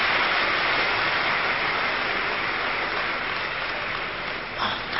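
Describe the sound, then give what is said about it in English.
A large audience claps continuously for Kumaris who are training to be teachers, a dense, steady wash of applause filling the whole stretch at fairly high volume, thinning slightly near the very end. “Then you should all clap for these teachers, Kumaris who are training to be teachers.”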